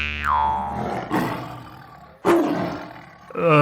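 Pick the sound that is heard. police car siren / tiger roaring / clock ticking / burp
tiger roaring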